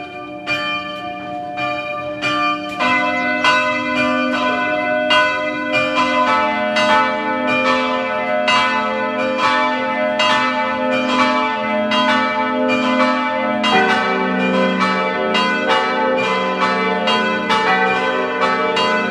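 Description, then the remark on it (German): Several bells of the parish church of Pack, a mountain village in western Styria at 1125 metres above sea level, peal together at 12 noon in a dense, continuous ringing, overlapping strikes with long humming tones, loud and steady throughout with no voices. “Es ist 12 Uhr. Sie hören die Glocken der Pfarrkirche Pack in der Steiermark.”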